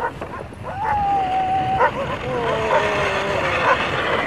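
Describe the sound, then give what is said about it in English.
Several sled dogs bark and yip excitedly, with a long whining whimper rising over steady outdoor rumble; the barks come in short bursts, loud, as the team goes up a hill into a village. “I'm nothing but, you know, just completely consumed with pride and amazement and gratitude for these dogs.”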